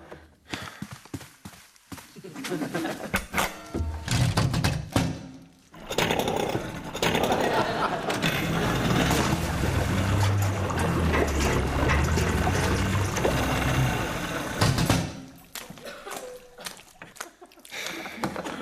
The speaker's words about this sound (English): Yeah, the outboard's still working. Yeah, pick it up anytime.